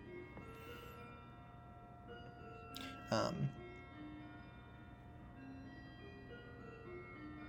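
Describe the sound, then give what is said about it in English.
A bell rings softly in the background, its sustained, overlapping tones hanging steadily through the whole stretch, interrupted once midway by a brief, louder noisy burst. “Sorry, this is me pausing because there's a bell in the background that I'm not sure if you can hear.”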